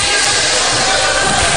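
Steady crowd noise fills an early volleyball match, the crowd limited in size because of COVID-19, a broad, constant wash of many voices murmuring and calling at a fairly loud, even level with no single voice standing out.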